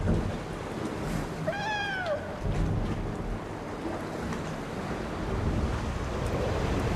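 Water laps and washes against the bottom stone steps, where a boat floats in the dark water, in a steady, noisy churn with a windy rush, broken early by a brief, rising-and-falling cat-like meow. No one speaks.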